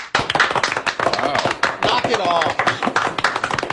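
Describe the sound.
Sustained crowd applause, a dense steady wash of many hands clapping at full volume for several seconds, with voices calling out and mixing into the clapping throughout.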